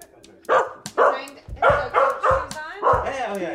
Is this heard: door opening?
no